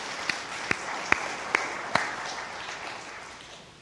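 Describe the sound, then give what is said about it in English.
A church audience applauds a psychologist as he comes up to teach, a steady wash of many hands clapping punctuated by a few sharp, louder individual claps early on, then gradually thinning and fading out. “You know, I'd come up anyways if you didn't clap.”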